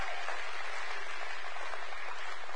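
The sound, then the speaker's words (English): A church audience claps for tithes and offerings in a steady, dense wash of applause that holds at an even, moderate loudness throughout, with no voices standing out. “Well, also, it's a pleasure that we can clap for tithes and offerings.”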